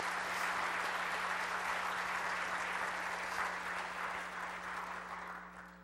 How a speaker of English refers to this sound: If He's worthy of your worship today, let's applaud the Lord Jesus Christ this morning.